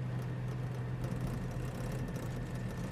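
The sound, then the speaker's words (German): The engine of a car weighing about 650 kilos drones steadily at low pitch as it moves off slowly across a car park by a festival ground, a constant rumble with road and cabin noise, no voices and no change in intensity. “Er ist etwa 650 Kilo, wo wir jetzt hier drin sitzen. Zu Gockhausen oben biegen wir dann links ab und fahren über die Gehren wieder zurück zum Festgelände.”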